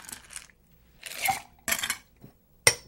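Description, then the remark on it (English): Ice rattles and clinks inside a cocktail shaker as Pure Leaf sweet tea and ice are shaken together, in several bursts of shaking, bright and clattery, with short pauses between and a final sharp knock. No one speaks. “Top it off with a little sweet tea, add a little ice, and shake it together.”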